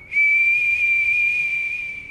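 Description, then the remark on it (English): A person whistles one long, shrill, steady note lasting about two seconds, imitating tornado wind screaming through walls, with a faint airy hiss beneath. “In the middle of the freight train sound, there was a shrill whistle. Whistle of the air going through the walls themselves.”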